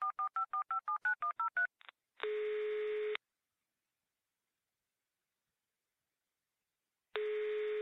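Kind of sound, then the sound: signal or alarm, mobile phone dialing tones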